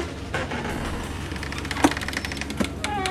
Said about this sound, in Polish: Podwójne drzwi.